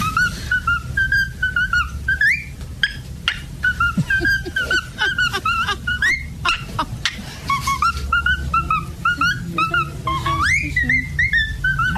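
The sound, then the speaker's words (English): A young cockatiel, about 4 months old, whistles a lively, repeating tune, bright chirpy phrases rising and falling in quick runs over a low background rumble, with no talking. “What kind of bird is this? It's a cockatiel.”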